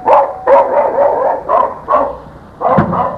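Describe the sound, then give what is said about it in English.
A dog barks repeatedly, a quick series of about six loud, slightly whiny barks with short pauses between them and no one talking. “And what a beautiful dog.”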